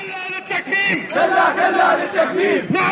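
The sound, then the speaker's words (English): A large crowd of Iraqi journalists and press freedom advocates chants a slogan in unison at a protest in Baghdad's book market, loosely 'our freedom is guaranteed, we don't want it imprisoned', many voices rising and falling together in a steady, forceful rhythm, loud and sustained throughout. “Last week, Iraqi journalists and press freedom advocates poured into Baghdad's book market to protest.”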